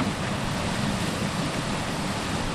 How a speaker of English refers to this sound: David Ansalabahare is standing next to a gushing 40-inch pipe. He's the general manager of the Coella Water District near Bakersfield.